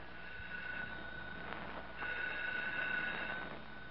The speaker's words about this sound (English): You come in here right this minute. The phone's ringing. Well, answer it.